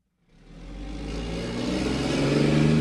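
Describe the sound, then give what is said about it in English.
A cement truck's engine rumbles in abruptly and swells steadily louder as it rolls past in the Back Bay neighborhood of Boston, a deep droning growl with a rising mechanical whine and no voices. “It's tough to imagine a canal system in Back Bay when a cement truck rolls past you, but that's exactly what I'm trying to do.”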